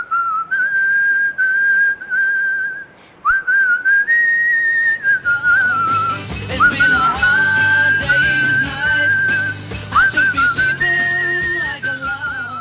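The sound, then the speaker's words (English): A man, the founder of the Indian Whistlers Association, whistles a bright, clear melody from a pop band's song, first on its own, then joined halfway through by a full backing band that plays under the sustained whistled phrases. “I caught up with one man hoping to bring whistling to a CD store or even a concert hall near you.”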